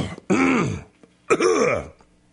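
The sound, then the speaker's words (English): A man clears his throat twice, loudly, each a rough, gravelly rasp lasting around half a second, separated by a short pause with no speech. “God, what do I got in my throat here, man?”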